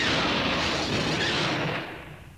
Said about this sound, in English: Luke and Leia had started back up the corridor when a series of blinding explosions ripped the walkway ahead of them.